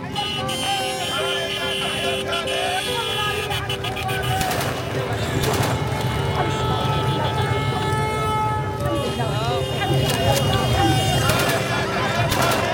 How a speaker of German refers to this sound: Tja, so klingt das. Jubel, Hubkonzert und Freudenschüsse. Syrien feiert den Sturz eines schrecklichen Diktators.